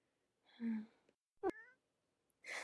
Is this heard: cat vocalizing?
yes